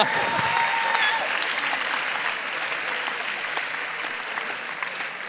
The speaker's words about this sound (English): So let's give an applause to for that.